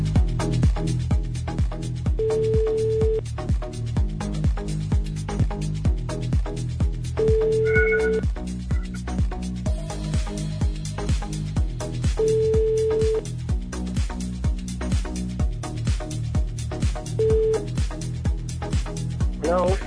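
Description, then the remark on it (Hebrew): A phone line rings out in repeated steady tone bursts, about every five seconds, over a continuous backing of music, with a brief dialing-like beep partway through, as radio station Kol Chai places a live on-air call. “אני רוצה שנתקשר עוד פעם. בואו נתקשר עוד פעם.”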